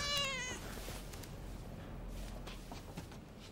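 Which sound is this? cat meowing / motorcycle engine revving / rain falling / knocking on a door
cat meowing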